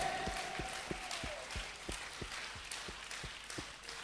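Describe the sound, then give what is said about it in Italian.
A crowd claps together in a steady round of applause, with distinct individual claps punctuating the broad wash of noise; no one speaks over it. The crowd is applauding the king, Jesus, during a sermon. “Vogliamo applaudire il re.”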